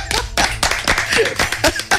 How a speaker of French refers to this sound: On applaudit bien fort